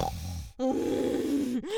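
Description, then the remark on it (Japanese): A coarse, pig-like nasal snort, a rough grunting snuffle that rattles for over a second after a short pause, ending with a brief rising squeal-like snort. Loud, with no talking. “超下品な鼻音。”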